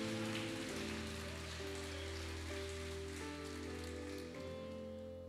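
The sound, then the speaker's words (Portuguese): An audience applauds Jesus steadily, a dense wash of many hands clapping without pause, while sustained keyboard chords hold underneath the whole time. “E se você acredita, dê um aplauso a Jesus.”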